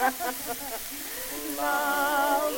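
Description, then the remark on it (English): A person imitates a cat, pushing out a breathy hiss mixed with short voiced yowls that swell into a longer, louder wail at the end. “How do you like my cat imitation?”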